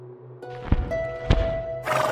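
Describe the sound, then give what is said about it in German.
A winged horse whinnies over a low steady hum as it lands gently at a city's gates, with two heavy thuds like hooves landing, followed by a brief burst of airy noise. “Das geflügelte Pferd landet sanft an ihren Toren.”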